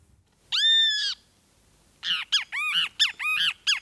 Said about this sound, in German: So klingt es, wenn der Schwefelmaskentyrann tagsüber sein Lied trällert. Der kleine Vogel mit gelbem Bauch und schwarzen Streifen um die Augen zählt zu den sogenannten Schreivögeln.